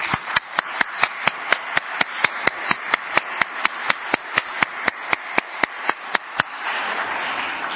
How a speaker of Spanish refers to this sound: Me refiero a las 31 juventudes ganadoras de la octava edición de Juventud Actúa MX 2025, quienes respondieron a la convocatoria del INE, nos enviaron sus propuestas y el día de hoy nos acompañan, para quienes pido un fuerte aplauso.